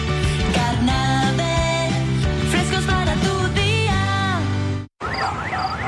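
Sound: alarm going off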